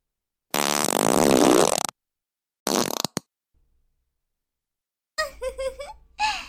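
A long, loud, buzzing fart rips out, then a shorter sputtering one follows after a pause. A bit later, a voice giggles briefly.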